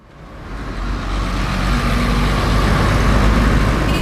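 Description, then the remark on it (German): Dense road traffic on the streets of Seoul, South Korea, rumbles steadily, with heavy engines and passing vehicles building from a quieter start into a continuous loud roar; no one speaks. “Auf Seouls Straßen ist immer was los.”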